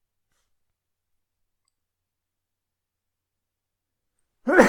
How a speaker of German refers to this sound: Gesundheit und mit diesem hervorragenden Nieser schließen wir das Thema.